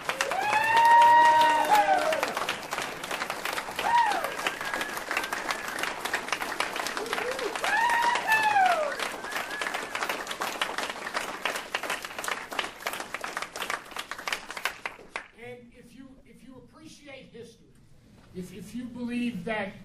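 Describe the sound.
A crowd at a 2013 event in Aspen claps loudly and steadily for about fifteen seconds for the program's organizer, with whoops and cheers rising over the applause, then it cuts off as a person begins speaking.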